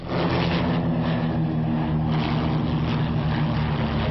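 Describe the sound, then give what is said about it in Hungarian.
A propeller airplane drones steadily and loudly at the first flying day in Pogány, near Pécs in Baranya county, Hungary, its engine hum holding a constant pitch and level throughout with no one speaking. “Bárki kipróbálhatta a gépeket az első pogányi repülőnapon.”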